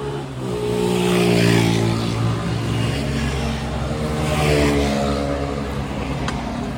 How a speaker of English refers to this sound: Damn motorcycle.